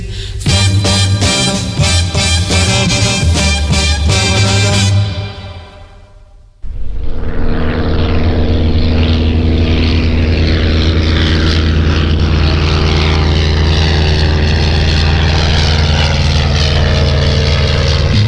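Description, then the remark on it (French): A few seconds of music cut out, then a loud, steady propeller-airplane roar fills the rest, with a low droning hum and broad rushing noise as the plane comes in to land. “J'arrive un avion. S'envole. Non, il se pose.”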